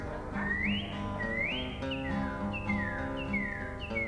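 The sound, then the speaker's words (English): A northern cardinal, the West Virginia state bird, sings its most usual song: clear whistled notes, two long rising slurs, then a quicker run of about five descending slurred whistles, all over a steady low background hum. “Now the Cardinal has other songs besides that one most usually.”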